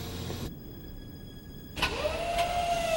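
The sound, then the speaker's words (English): A mechanical clunk, then an electric winch motor overhead starts up and runs with a steady, slightly rising whine over a background rumble as a truck trailer is hoisted off the ground. No one speaks. “When they hear a winch overhead, they duck into a netted storage container in the back of the trailer.”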